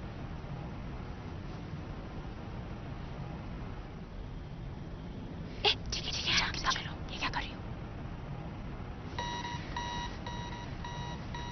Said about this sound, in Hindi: Fridge की सीटी है, लगता है दरवाजा खराब हो गया है। पता नहीं क्या बात है, दरवाजा बंद है फिर भी सीटी बज रही है।